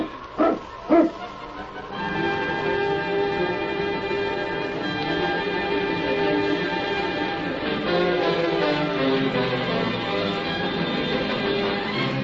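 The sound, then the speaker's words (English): Husky sled dogs of the Mounties' pack, led by the dog King, bark twice in quick succession near the start, loud, then a steady ringing, bell-like tone fills the rest without any talking. “Get the dogs up, King. On, King! On, you husky!”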